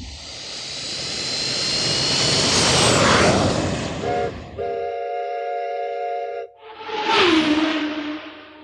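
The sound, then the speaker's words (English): An airplane engine sound effect: a loud roar swells for several seconds, then cuts to steady horn-like tones and a brief rising vehicle sound. No one speaks. “And yes, it's planes, trains, and automobiles”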